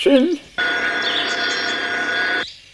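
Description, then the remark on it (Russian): A telephone bell rings in one loud, steady burst of almost two seconds, cutting in abruptly and stopping just as sharply, right after a brief vocal sound. “Ах, извините, у меня зазвонил телефон.”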